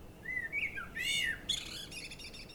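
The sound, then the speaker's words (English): A blackbird sings a mellow, fluting warble, one rising and falling phrase running into a brighter, twittering flourish, clear over a faint outdoor hiss, with no voices. “And to the sound of War Blackbird”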